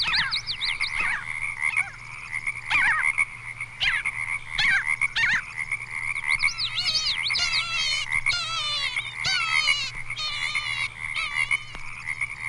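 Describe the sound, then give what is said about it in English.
Parasitic Jaeger calls: a run of nasal, wavering mewing notes, some rising and wobbling in pitch, repeated steadily and fairly loud against a constant low background hum, with no talking. “Page 108, Parasitic Jaeger.”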